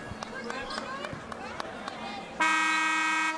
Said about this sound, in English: comes in strong from the right side, and a whistle and a foul.